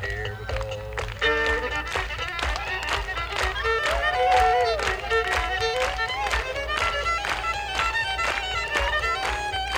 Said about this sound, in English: I want you to clap me some rhythm right now.